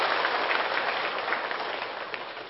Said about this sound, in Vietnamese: Xin toàn thể đầu tràng cho một tràng pháo tay xin đón sự hiện diện của thầy.